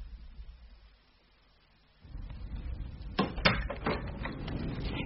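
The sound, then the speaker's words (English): A front door opens as someone arrives, after a couple of seconds of near silence, letting in a louder outdoor ambience, followed by a few wooden clunks and knocks as it swings and settles. “I heard you coming up the path, so I came to the door.”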